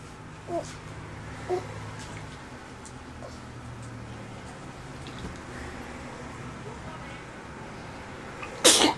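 A baby gives one sharp sneeze near the end, following a stretch of quiet background noise broken only by a couple of small soft sounds.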